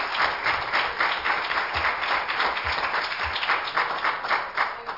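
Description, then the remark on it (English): An audience breaks into sustained applause, giving the Lord a hand clap of praise: a dense, steady wash of many hands clapping for several seconds at a fairly loud, even level. “If you're thankful for that grace tonight, give the Lord a hand clap of praise, amen.”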